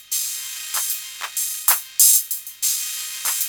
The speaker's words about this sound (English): There's all those beautiful delicate sounds to be had here. No reverb. Bring the signal level down now. Less distortion. Soft attack on the cymbal.